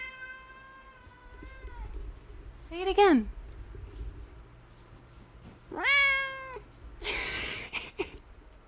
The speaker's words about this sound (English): I don't know if you just heard my cat yell. He just yelled at everyone.